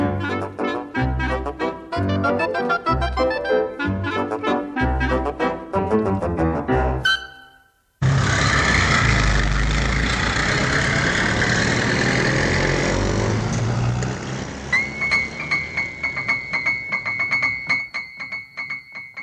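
Rhythmic music plays for several seconds, then cuts to a steady, loud rumble of an idling line S bus engine with a constant mechanical drone and faint higher whine that continues to the end.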